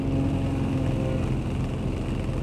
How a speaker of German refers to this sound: 11. Juni 1911, morgens um genau 5.13 Uhr Ortszeit. Flugfeld Johannisthal bei Berlin. Das erste von 25 gemeldeten Flugzeugen rumpelt auf die Graspiste.